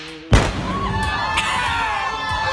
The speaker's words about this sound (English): So she got down in her farm in Texas. They were about 200 yards away from the actual wedding dress. She took a gun and shot it at the wedding dress, and this is what happened. Did you hear that explosion?